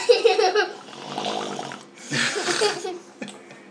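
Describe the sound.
A child blows a sputtering, rattling raspberry noise with the mouth, imitating an old 1930s motorbike engine in rough bursts that swell and fade over a few seconds.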